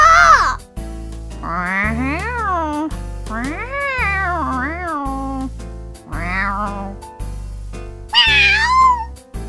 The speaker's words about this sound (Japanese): ある日、あるお家の屋根の上、2匹の猫が戯れておりました。